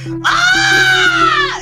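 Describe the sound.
A Wilhelm scream: one loud, drawn-out cry of pain that rises sharply, holds for about a second, then falls away, heard alone with no talking.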